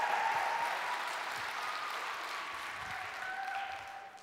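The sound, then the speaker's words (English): An audience claps in a steady wash of applause, many hands blending into a dense, even patter that holds at a moderate level for several seconds with no voices on top. “Oh yeah, now you got to clap.”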